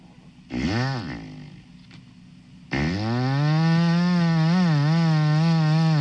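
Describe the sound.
A man's voice imitates a chainsaw live on the radio, holding the palm of his hand up across his mouth: a short sputtering pull-start burst, a pause, then a long steady buzzing drone with wavering pitch, loud.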